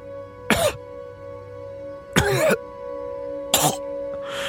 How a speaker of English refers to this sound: she coughs and sputters. And she blinks slowly.